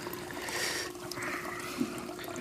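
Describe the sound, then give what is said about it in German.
Water pours into a glass with a steady trickling splash that runs for a couple of seconds, with no voices present. “Ich brauche nur ein Glas Wasser.”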